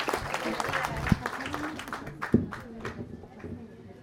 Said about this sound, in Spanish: Entonces, hoy nos acompaña aquí este compañero y le vamos a dar la palabra y les pedimos un fuerte aplauso para todas las normales rurales del país, que no les van a desaparecer.